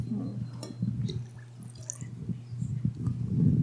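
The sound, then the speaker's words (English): Water from Storforsen, a big waterfall in Sweden, pours and splashes into a container, with scattered drips and gurgles over a steady low hum, growing a little fuller toward the end. “this water represents the water from Storforsen in Sweden”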